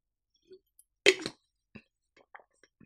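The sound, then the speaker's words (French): Someone takes a quiet sip of a drink: a short slurping burst, then soft wet mouth clicks and a swallow in near silence, with no talking. “Laissez-moi prendre une gorgée de play avant de poursuivre.”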